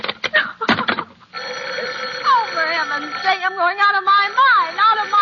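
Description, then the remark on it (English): An old telephone bell rings in a short rattling burst, then a woman's voice starts speaking loudly and agitatedly over the quiet that follows. “if you don't stop ringing, I'm going to call the police, do you hear?”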